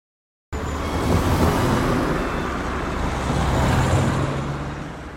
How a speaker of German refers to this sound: Viel Verkehr. Auf der Bundesstraße 256, die in Waldbröl Kaiserstraße heißt.